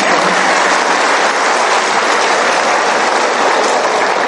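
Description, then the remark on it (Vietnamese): A crowd at a retreat applauds steadily for about four seconds, a loud, dense wash of many hands clapping at once with no pauses or voices. “Vỗ tay.”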